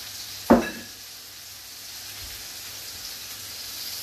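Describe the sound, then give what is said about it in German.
Meat is seared hard on both sides in a hot pan before going into the oven: a sharp hiss bursts out as it hits, then settles into a steady, bright sizzle that crackles on without any talking. “Das muss nur scharf angebraten werden von beiden Seiten”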